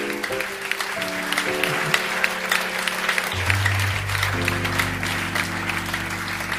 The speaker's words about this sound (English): Praise God. Clap your hands. Bless the Lord. Oh, give him a better clap offering.